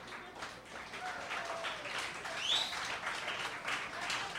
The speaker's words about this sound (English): Keep clapping!